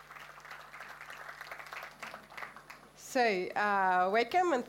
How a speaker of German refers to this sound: Und damit eine Runde Applaus